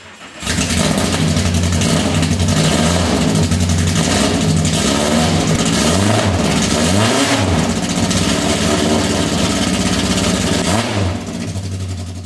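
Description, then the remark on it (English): A 510 car's engine starts and idles loudly, with several quick revs past 2,500 rising and falling in pitch before it settles back to a steady rumble. “How about we hear the 510? So Kalen went over there and recorded the 510.”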